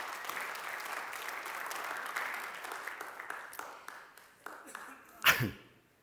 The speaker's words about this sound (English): I don't know why you clapped for that. Maybe it was because you're thinking most of us can't last that long.